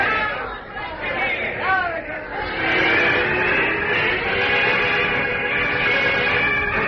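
A dense crowd murmurs and chatters all at once, a steady wash of overlapping voices with no single speaker standing out, growing slightly fuller partway through.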